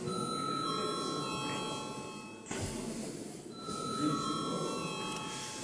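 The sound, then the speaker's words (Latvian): A parliament voting bell rings steadily for several seconds ahead of a vote, a continuous metallic tone that briefly dips midway, with a low background murmur underneath and no clear speech. “Lūdzu zvanu.”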